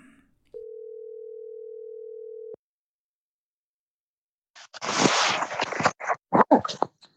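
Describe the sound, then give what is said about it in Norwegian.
A single steady telephone ringback tone sounds for about two seconds as a call is placed, then silence, followed by a burst of crackling rustle like a phone being handled. “Kanskje vi skal ringe han og høre da? Vi ringer og hører hvordan det går.”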